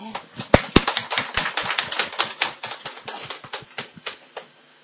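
A church gathering claps for the risen Jesus in a burst of applause, many sharp overlapping hand claps in a quick, uneven patter that gradually thins out and fades away.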